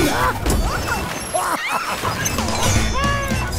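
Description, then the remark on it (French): A loud, constant storm roar with waves crashing and heavy thuds against a boat, while high wailing, creaking tones rise and fall through the churning noise. “Je me demande ce que ça fait de traverser ce genre de gros temps sur un bateau.”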